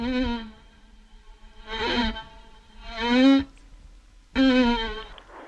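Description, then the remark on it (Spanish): A violin mimics a buzzing fly in four wavering, scratchy bursts, each rising and falling in pitch with short pauses between, played alone without any talking. “estábamos escuchando un violín y estábamos escuchando una especie de mosca”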